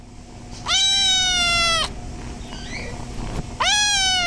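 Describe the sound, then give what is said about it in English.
Kittens in a big glass box at the animal shelter in Homer meow in two long, drawn-out cries separated by a short pause, loud, with a faint background hum and no talking. “The first thing you notice when you walk through the front door of the Homer Animal Shelter is a big glass box filled with cute, fluffy kittens.”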